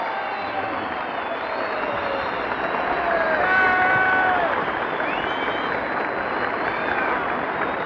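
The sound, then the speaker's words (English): A large crowd cheers and applauds continuously, a dense roar of voices with whistles and shouts rising above it, swelling slightly louder midway before holding steady. The crowd stands in the speaker stands and in the plaza in front of New York City Hall, greeting General Ike Eisenhower as he approaches the microphone after receiving awards. “The general receives these awards and approaches the microphone, and here he is, Ike Eisenhower himself, and listen to that crowd.”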